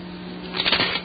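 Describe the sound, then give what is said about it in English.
A short rustle of a paper sheet being flipped over, a crisp papery swish lasting about half a second over a faint steady hum, with no voices. “Wrong side of the paper.”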